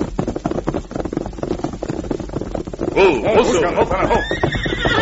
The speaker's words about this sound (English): Look, a horse with an empty saddle breaking through that brush.